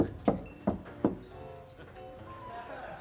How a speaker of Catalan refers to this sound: En Will els condueix a una porta tancada a la cuina i hi pica amb els artells